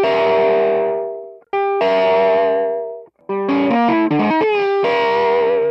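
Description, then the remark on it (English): A distorted electric guitar plays a tapping riff: two long sustained notes, then a quick run of hammered-on notes; the last tap note is held while two notes are hammered on to complete a ringing chord. No one speaks. “After you finish the riff, you're going to be holding that last tap note.”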